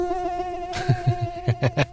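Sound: mosquito buzzing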